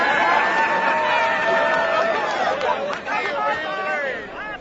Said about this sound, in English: The company crowd hooted and hollered at James Hansen and Daryl Hannah as they were arrested. Well, that video clip came from West Virginia Public Broadcasting, recorded June 23, 2009.